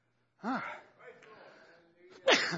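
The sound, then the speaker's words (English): A single sneeze: a voiced, rising intake followed after a short pause by a sharp, loud, breathy burst, with no other sounds around it. “Be no sneezing there either.”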